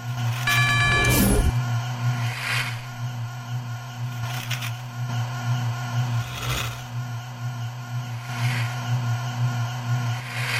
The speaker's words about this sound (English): So that humming noise tells you that brakes are active, I believe.